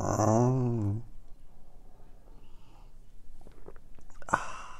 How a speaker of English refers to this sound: So if you have your delicious beverage, this would be the time for the simultaneous sip. Here we go.